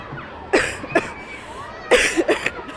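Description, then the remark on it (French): Two bursts of harsh coughing from a person who is a little ill, each a quick cluster of two or three coughs, separated by a short pause with faint background noise. “Je suis un peu malade et je tousse beaucoup.”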